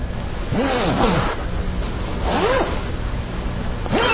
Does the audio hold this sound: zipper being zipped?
yes